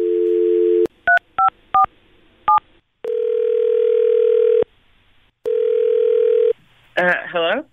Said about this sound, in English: we've got her phone number here, Jared, so let's call Amanda right now